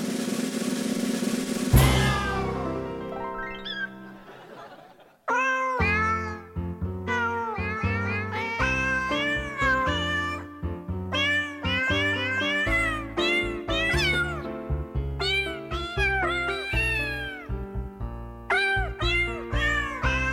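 A novelty song built from cat meows pitched into a melody, bouncing over a steady bass-and-drum beat after a brief sustained opening chord that fades out. Loud and continuous, with no talking.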